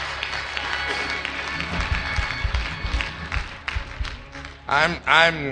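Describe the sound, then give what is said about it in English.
An audience claps steadily for several seconds as a hand clap of praise to the Lord, a dense wash of hand claps with crowd noise mixed in, then a loud voice calls out over it near the end. “Come on and put those hands together and give the Lord a great big hand clap of praise.”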